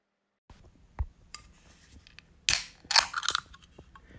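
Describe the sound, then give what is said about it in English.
An ice-cold can of Loco cold brew coffee is cracked open: a small click and some handling, then a sharp metallic pop followed by a brief, bright hiss of escaping gas, with no voices. “That's the sound of an ice-cold Loco coffee.”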